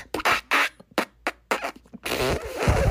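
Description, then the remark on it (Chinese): A comic fart sound effect for a brother who ate beans: a quick run of short sputtering blasts, then one long, loud, rumbling fart that carries on to the end, with no one talking. “于是他又再放了一个长长的屁。”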